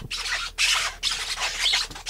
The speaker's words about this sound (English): Because there's still water on the floor. I basically have my feet up on the ladder so that I took my shoes off, and I don't want to get them wet. Can I squeak? Can I make the floor squeak? Can you? Let's hear it.